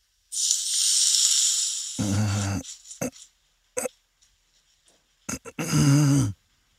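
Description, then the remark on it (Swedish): Hot oil hisses sharply as it is poured over garlic and potatoes, cooking the garlic, a loud sustained sizzle that gives way to sputtering crackles and tonal squeals, then flares up again in a second burst. “man ska hälla oljan över vitlöken. Den, då skjuts den.”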